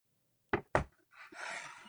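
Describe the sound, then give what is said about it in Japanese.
The door of a home opens on a cold day: two sharp wooden clunks from the latch, then a soft, airy rush as it swings open and the indoor warmth flows through, with no voices. “扉を開けると室内の温度が流れ込む。”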